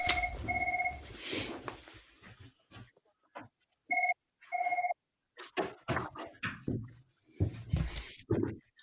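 signal or alarm, telephone ringing

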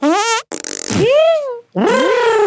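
human body sound, farts

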